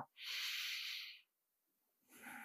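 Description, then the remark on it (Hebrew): A long, airy deep inhale of about a second, clearly audible, taken during a guided relaxation practice, followed by a pause of near silence and then the start of a softer exhale. “אולי לקחת איזה נשימה עמוקה”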